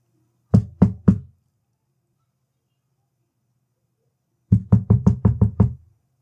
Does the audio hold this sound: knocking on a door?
yes